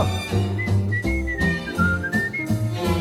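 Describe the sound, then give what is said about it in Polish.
A clear, bright whistled melody glides up and down over steady instrumental backing, the tune carried in a series of sustained notes with no voices singing. “Kocham śpiew, kocham gwizd.”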